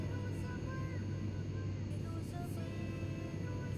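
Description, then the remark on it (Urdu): A steady, droning airplane engine roars continuously as a quiz-show sound effect for a plane flying a team to Iran, a low rumbling hum holding even in loudness throughout the few seconds without fading in or out. “جی جی جناب، ٹیم کورنگی کو لے کر جہاز سفر طے کرتا ہوا پہنچا ہے ایران.”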